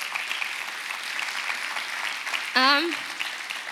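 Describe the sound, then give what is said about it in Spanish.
A church audience applauds in a steady, dense wash of clapping that runs throughout, with one voice briefly calling out partway through. “Y si puedes dar un aplauso.”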